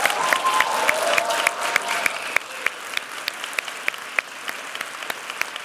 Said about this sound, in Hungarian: úgyhogy azoknak, akik most itt maradtak, még zárásként szeretnék egy hatalmas tapsot kérni a Partizán stáb részére, ami a munkájával lehetővé tette, hogy ez ma este itt megvalósuljon.